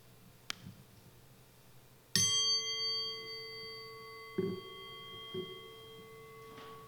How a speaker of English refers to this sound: We will now have a few moments of silence for contemplation or meditation. It will be ended by the chime of the bowl.